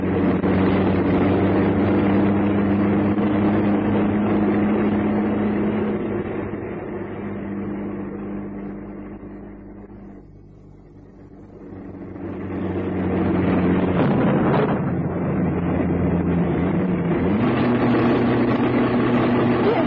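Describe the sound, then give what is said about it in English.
A truck engine drones steadily at night, low and rumbling, fading briefly midway before swelling again with shifts in pitch as it keeps driving. No voices. “He strained his eyes and gripped the wheel of the truck and hoped the rain wouldn't come.”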